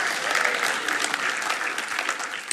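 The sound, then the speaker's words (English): A church audience claps steadily, a dense wash of many hands sustained and fairly loud for the whole moment, with no speech over it. “yes, it's applause day.”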